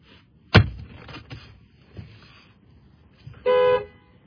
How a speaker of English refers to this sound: Honking at my dog to stay out of the trash.